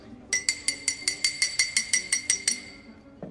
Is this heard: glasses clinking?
yes